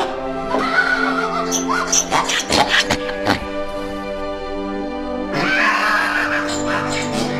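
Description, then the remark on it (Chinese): A pig squeals loudly and shrilly in distress inside a pig-slaughtering shop at a market, in two long bursts separated by a few sharp grunts and shuffling noises. “他一到市场，就听到一家杀猪店里传来哀嚎的猪叫声。”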